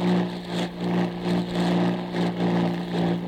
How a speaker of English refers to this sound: Torpedo boats.